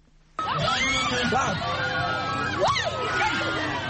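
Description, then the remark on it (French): A dense crowd of the Peul (Fulani) community erupts in loud, joyful shouting and high cries, many voices overlapping in a continuous roar with sharp rising whoops, sustained throughout, cheering a young man who takes whip lashes without flinching in a flagellation rite marking his passage to adulthood. “Ces cris sont des manifestations de joie devant la bravo d'un jeune homme qui a reçu sans broncher les coups de fouet, signe de son passage à l'âge adulte.”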